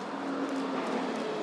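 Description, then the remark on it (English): A steady engine rumble with a low droning hum of buses moving along a street, holding an even level throughout with no voices. “Buses do seem to be moving.”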